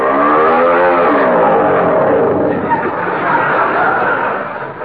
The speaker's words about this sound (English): Wait a minute. I can't hear anything. This engine is too noisy.